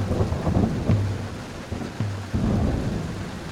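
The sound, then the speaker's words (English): A thunderstorm at sea buffeting the longship Varalfjord: steady rain and cold gusting wind fill the scene while deep thunder rumbles and rolls beneath, loud, with no voices. “Toril braced against the cold wind and gripped her oar tight as a storm buffeted the longship Varalfjord.”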